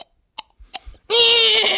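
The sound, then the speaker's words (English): A person imitates a galloping horse by flicking the tongue: a few sharp tongue clicks and soft thumps, sparse like a mouth-made galloping, then a long, loud, high-pitched voiced cry that sounds like an imitated horse whinny. “Like imitating a galloping horse, you make that sound by flicking your tongue.”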